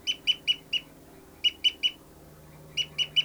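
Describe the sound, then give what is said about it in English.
A bird's fight call: sharp, high-pitched repeated notes in three quick bursts of three to four calls each, loud and clear above a low steady hum, with no talking. “Fight call by 59's flying, oh, that was 273 flying around.”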